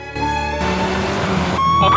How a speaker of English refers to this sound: A car speeds through London by night.